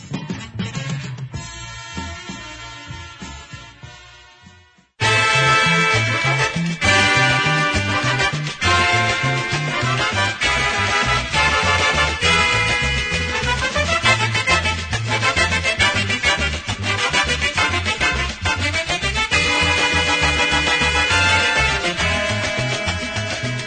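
A dance orchestra recording: one tune fades out over the first few seconds, then a loud, steady band number starts abruptly with a bouncing rhythm and bright melodic lines.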